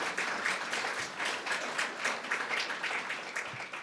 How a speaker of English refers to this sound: These are three household names that probably don't need an introduction, but I'm going to give you an introduction anyway. You can applaud if you want, you know. Why not?